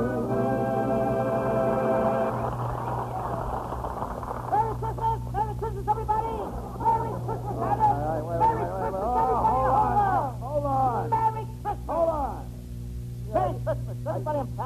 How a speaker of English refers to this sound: Wait a minute. Merry Christmas. What's the idea of coming out here humming Merry Christmas? Christmas is nearly 2 months away.